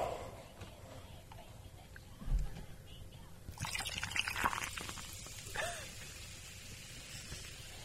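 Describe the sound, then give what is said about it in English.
Diet Dr. Pepper soda is poured, then breaks into a steady crackling fizz of bubbles that hisses on for several seconds, with a soft low murmur of voice. “It's got a nice fizz to it.”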